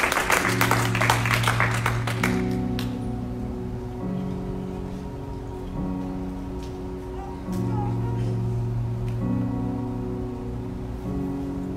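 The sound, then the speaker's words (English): A short burst of audience applause fills the first couple of seconds, then fades quickly while sustained keyboard chords carry on softly underneath. “It's okay, you can clap.”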